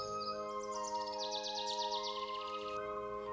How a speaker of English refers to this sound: It's spring at Maplewood Elementary. The birds are singing. Mother Nature is in full splendor.